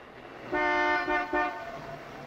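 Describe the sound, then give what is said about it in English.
A car horn honks in a loud blast that breaks into two or three quick pulses, over a faint background hum with no voices; the horn of a car at the Jalisco Hotel, sounded as a signal. “As soon as she hears the horn, Lily races down the long staircase.”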